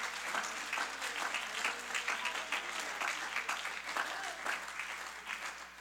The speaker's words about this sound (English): You ought to clap your hands for the miracle. Amen. Hallelujah.